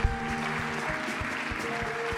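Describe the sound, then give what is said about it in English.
A church audience applauds steadily to thank those who came and worked, many hands clapping at once in a dense, continuous patter with a sustained tonal hum underneath, moderately loud. “Let's give those that worked and came a good hand of thanks.”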